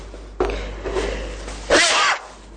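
A single loud sneeze bursts out near the end, preceded by a quieter breathy build-up, with low background hum underneath.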